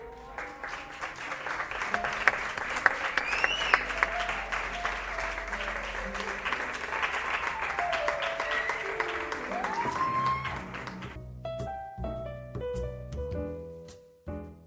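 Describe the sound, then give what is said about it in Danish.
A crowd claps loudly and steadily, mixed with whoops and cheering voices, as a man in sailor clothes strips down to small gold underpants and swings around a shiny pole in a mock striptease, before the applause gives way to music with sustained tones near the end. “Han svinger sig om den blanke pæl, og du griner og klapper.”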